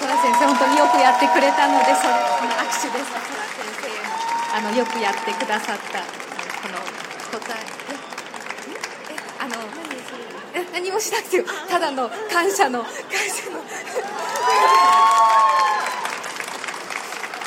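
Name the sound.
audience applause and cheering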